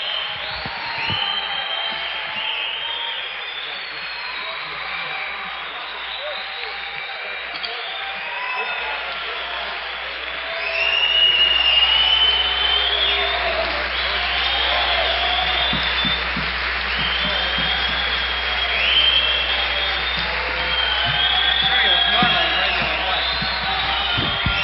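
A large concert crowd at Listener Auditorium claps and cheers steadily, with shrill whistles and whoops rising over the roar; the applause swells louder about halfway through and keeps going, calling for an encore.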